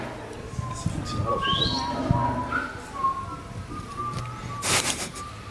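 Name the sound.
people whistling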